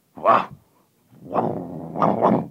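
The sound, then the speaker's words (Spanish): A dog lets out a sharp bark, falls quiet briefly, then growls with a low rumble that breaks into two quick barks, fairly loud with no talking. “Yo un perro fiero... Vamos, un perro fiero como ama de cría de un gato.”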